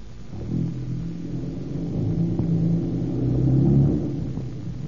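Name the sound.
car engine revving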